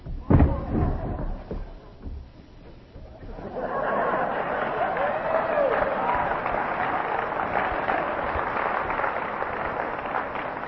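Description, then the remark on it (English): An audience applauds a man sitting on a toilet during a talk on sobriety, a dense steady clatter of many hands clapping that swells after a few seconds and holds strong, with a few brief knocks and a quieter lull at the start. “You ever think you'd applaud for a guy sitting on a can?”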